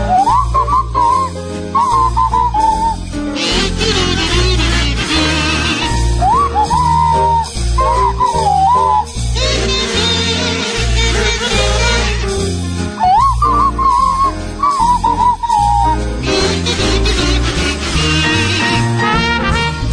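A sliding swanee whistle played by Tim and Graham carries a bouncy tune over buzzy kazoos played by the rest of the cast and a steady band accompaniment, loud and continuous throughout, with swooping pitch bends between phrases and no talking.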